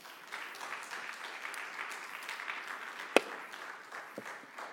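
audience applause

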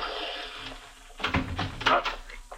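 person splashing into water

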